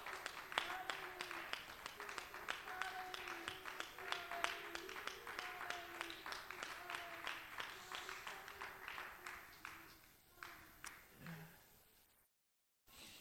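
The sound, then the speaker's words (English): An audience at a morning church service claps hands in praise in a steady rhythm, with voices and sustained singing or talk beneath it. The clapping fades out after about ten seconds and is followed by a brief silence. “Why don't you clap your hands before the Lord? Why don't you applaud Him and give Him acclamation?”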